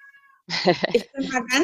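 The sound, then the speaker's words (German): A tomcat meows loudly, two drawn-out, wavering calls in quick succession after a faint tone at the start, with no talking over them. “Kümmert sich da jemand um den Kater.”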